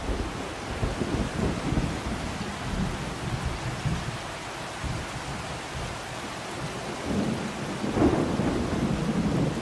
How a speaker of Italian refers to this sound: giungono spaventosi rombi di tuono e nere nubi addensano la pioggia. Il lampo avvampa e il fulmine saetta. Cadono fitte e grosse gocce d'acqua.